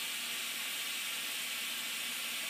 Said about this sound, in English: So that safety is lifting at about 110 pounds per square inch. If we keep making more and more steam, now it's sounding quite angry. And in a moment, the other one will lift as well.